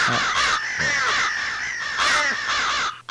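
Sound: crow cawing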